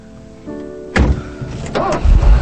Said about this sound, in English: As Bibi drives off